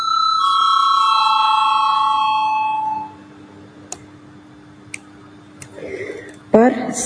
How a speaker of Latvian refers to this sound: Lūdzu zvanu. Balsosim par šo lēmumu projektu.